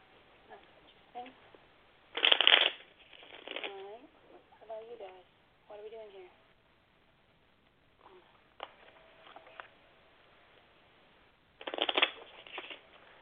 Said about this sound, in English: Very interesting shuffle already.